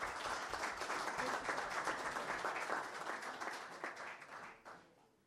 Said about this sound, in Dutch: En dan mag best een applaus bij hoor.